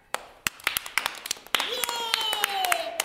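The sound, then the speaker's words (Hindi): Brisk, irregular hand claps, a dozen or more sharp snaps, clapping after a children's game. Halfway through, a sustained, slowly falling voice-like tone joins and carries on beneath the continuing claps. “हो जाए इसी बात पे तालियां।”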